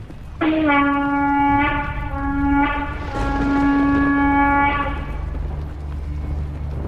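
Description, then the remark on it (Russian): Divine conch shells blown by Lord Krishna and Arjuna on a chariot drawn by white horses, in long, loud, sustained blasts, a low droning tone with bright overtones, sounding in several overlapping calls before fading into a quieter held note. “На другой же стороне Господь Кришна и Арджуна, стоявшие на великолепной колеснице, запряженной белыми лошадьми, затрубили в свои божественные раковины.”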